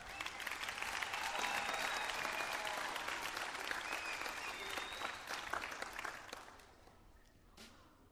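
An audience claps steadily for four people called up to play cornet along, a dense, sustained burst of applause that holds for several seconds, then tapers off as a few last claps trail away.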